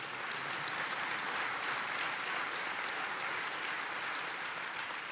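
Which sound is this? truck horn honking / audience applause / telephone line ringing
audience applause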